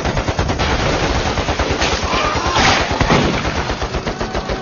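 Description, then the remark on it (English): Rapid automatic fire from an M16 rifle rattles on without pause, a dense stream of sharp, loud shots in fast rhythm, with overlapping bursts blurring together across the whole stretch. “His M16 sputtered flying at anything that moved, more than once chewing up weeds”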